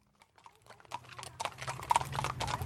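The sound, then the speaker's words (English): Horse hooves clip-clop on pavement on Henderson Street in Seattle's Rainier Beach neighborhood as horses head from a family farm down to the lake; a steady, irregular patter starting faint and growing louder over a low background rumble. “There are horses on Henderson Street in Seattle.”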